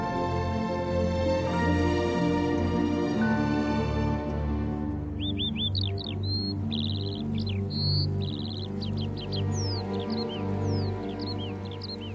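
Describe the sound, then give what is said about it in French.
Birds call outdoors as people walk down a descending path, starting after a few seconds with a lively run of sharp chirps and quick whistled notes that repeat throughout, heard over a steady low rumbling background. “Alors là, on est repéré par les oiseaux qui se sentent très très bien.”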